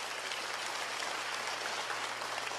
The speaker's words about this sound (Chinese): 我说送出去多少钢琴？他说100多台。哇，给他一个掌声吧。